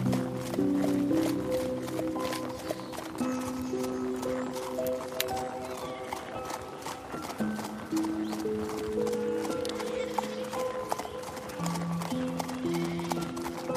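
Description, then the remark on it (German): An Icelandic horse's hooves clip-clop in a quick, steady rhythm throughout, distinct, as it is ridden across the Icelandic landscape, with soft melodic music playing underneath. “Doch dann brauchen eure Pferde eine Pause.”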